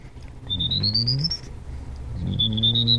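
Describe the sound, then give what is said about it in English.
Someone whistles an imitation of a prairie warbler's song with pursed lips and no electronics: two thin, high phrases that climb steadily upward in pitch, separated by a short pause, fairly clear over faint background hum. “You know, things like prairie warbler.”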